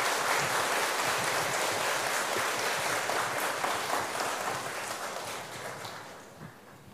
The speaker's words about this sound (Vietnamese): Thì ngày hôm nay đó có rất đầy đủ các thầy cô giáo, thầy rất hoan hỷ và xin dâng cao tràng vỗ tay thật lớn để tán dương các thầy cô giáo.